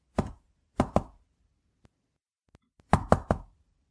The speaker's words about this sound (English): He sauntered down the hall, rapping with his knuckles on the doors of empty rooms.